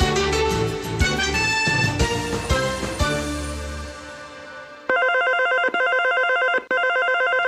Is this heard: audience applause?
no